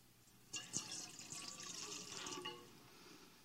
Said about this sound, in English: And we do it with water from the tap because Jesus got baptized in the ordinary water that was near his house. Would you like to pour the water in there for us?